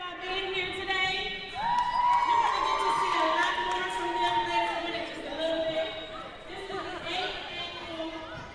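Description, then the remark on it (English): A lively crowd chatters and cheers in a large, echoing school gym at the 8th Annual Peace March gathering on a Saturday morning, as a DJ goes around to groups of young participants and starts a Soul Train style line. Many overlapping voices hold a loud, steady din, with occasional excited shouts rising above it. “Though it was 10 in the morning on a Saturday, spirits were high as a DJ made rounds around the room to groups of young participants and started a Soul Train style line for those older members of the crowd.”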